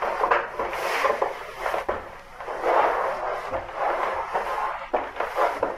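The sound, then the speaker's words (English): Heavy wooden doors creak and groan under strain in repeated surges of grinding, rubbing pressure, fairly loud, with no voices. “I am waiting for the doors to give way. Do you hear them?”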